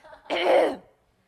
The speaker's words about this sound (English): I'm sorry if you're feeling like clearing your throat. Maybe you should. That might help me.